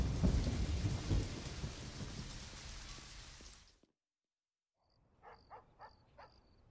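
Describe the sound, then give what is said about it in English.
Steady, dense rain hisses loudly with a low rumble underneath for several seconds, then stops abruptly. After a pause, a few faint, short tonal calls follow. “He strides briskly through the rain.”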